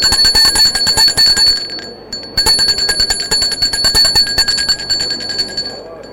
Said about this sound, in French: Un huissier est en bout de la table avec une sonnette à pariteur pour diriger les débats. Il se lève, sonne la cloche.